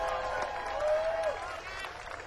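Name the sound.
audience applause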